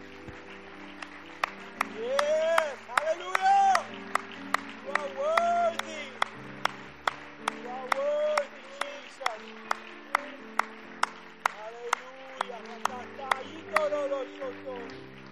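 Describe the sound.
An audience at a church service claps hands in praise of Jesus in a steady, even rhythm, about two sharp claps per second, for the whole stretch while voices rise and fall beneath.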